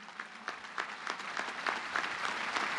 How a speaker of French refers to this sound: Plusieurs fois interrompu par les applaudissements, Benoît XVI a chaleureusement remercié les groupes de prière nés de l'intuition du Saint Pio